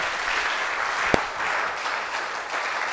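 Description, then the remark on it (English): A church audience claps together in a steady, dense wash of applause, with one sharp, louder clap standing out briefly in the middle. “Let the whole church clap.”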